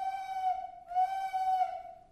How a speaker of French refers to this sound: Un loup se met à hurler.